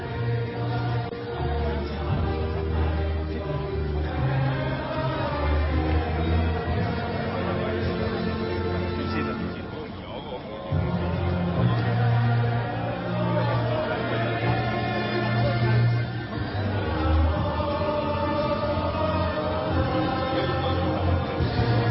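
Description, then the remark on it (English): A large crowd of protesters sings the national anthem together on the streets of Hong Kong, with hundreds of American flags waving, in a loud, sustained chorus of many voices, the melody moving in long held notes, with a brief dip partway before the singing swells again. “They were singing the national anthem, and I love the way they sing it because it has so much power and meaning.”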